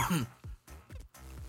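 A fit of harsh, raspy coughing after inhaling habanero powder: four or five rough bursts in quick, uneven succession, fairly loud, with throat-clearing grit between them and no speech.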